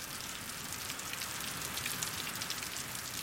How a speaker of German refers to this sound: Der Regen ist überall und malt helle Striche in die Luft. Manche Regentropfen sehen aus, als würden sie in der Luft stillstehen.